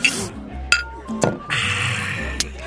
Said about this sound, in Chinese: 来来来来来，再陪舅舅干一杯啊！哎，干了！ 哎，干杯干杯！